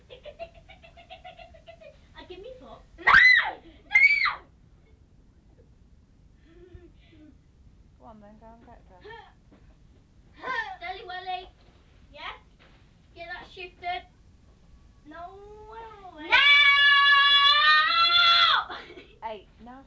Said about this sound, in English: Stop screaming.